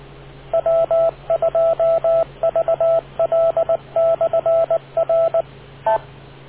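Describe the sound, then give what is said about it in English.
Rapid bursts of short electronic touch-tone beeps of a radio net beep tone arrive in quick clusters over a steady low hum, ending with one last isolated beep. No one speaks. “wait for the beep.”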